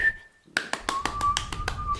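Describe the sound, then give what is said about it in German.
A soft, thin whistle holds a steady note, then drops to a lower pitch. About eight crisp finger snaps keep a regular beat underneath, and there is no talking. “Lauter kann ich nicht pfeifen.”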